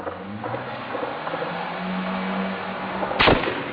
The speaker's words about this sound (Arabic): مدينة حماة، حي الحميدية، 25/1/2012. اطلاق نار كثيف على حي الحميدية واستمرار القصف على الحي اليوم الثاني على التوالي.